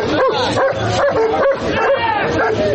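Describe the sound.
A police service dog barks and yelps repeatedly, loud, as riot police detain people at a rally of Alexei Navalny supporters and take them to police vans, over a dense background of crowd noise and overlapping voices.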